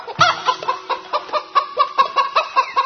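Frightened roosters and hens cluck in a frantic, rapid burst of calls as they fly in circles and chase people, one squawk tumbling after another in quick succession, loud with no talking.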